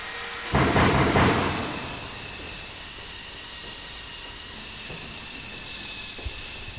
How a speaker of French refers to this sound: Comme un chien exubérant, je me laisse embarquer par le fracas du vent et les odeurs du parc.